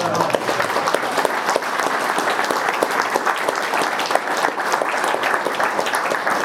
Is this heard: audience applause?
yes